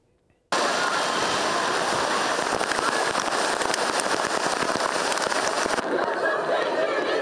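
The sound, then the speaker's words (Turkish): Heavy rain and hail pound down in a sudden, steady roar of dense crackling impacts, loud, continuing without a break for several seconds. “Yağmuru da yedik, doluyu da yedik.”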